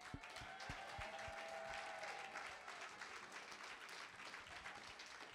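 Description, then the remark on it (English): An audience claps together as a clap offering to the Lord Jesus Christ, steady, dense applause, a loud continuous patter of many hands with a faint tone and a few low thumps at the start. “Put a clap offering to the Lord Jesus Christ.”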